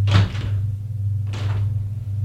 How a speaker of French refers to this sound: Ouvre encore une porte.